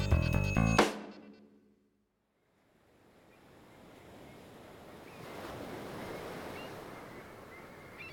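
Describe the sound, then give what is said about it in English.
Ocean waves lap and wash steadily, a broad hissing surge that swells in after a brief musical tone and a short pause of silence, then holds at moderate loudness. “Water laps at us as we rise and fall just above the waves, moving as fast as a bird.”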